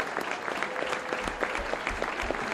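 An audience claps steadily, dense overlapping hand claps forming a continuous, fairly loud wash of applause with sharp individual claps popping out of the texture.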